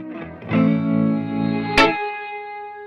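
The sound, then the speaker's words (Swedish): A reversed reverb tail swells up over a tonal, effected sound, building to a sudden bright accent before a sustained ringing tone trails off. No voices are heard. “Det är en reverbsvans som jag har vänt på.”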